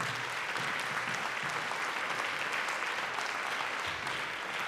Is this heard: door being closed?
no